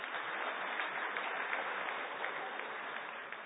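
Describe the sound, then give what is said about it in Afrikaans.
An audience claps steadily throughout, a dense, even patter of many hands at a constant loud level, with no voices on top. “En ons het toen nou maandag het hy sy eerste half marathon gedoen, ek denk hy verdien een ander klap daarvoor.”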